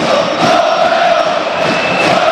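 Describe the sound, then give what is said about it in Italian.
A stadium crowd of Parma football fans cheering and chanting loudly and steadily, a dense continuous roar of many voices with a sustained sung tone running through it. “Sentite i tifosi del Parma che giustamente ci credono.”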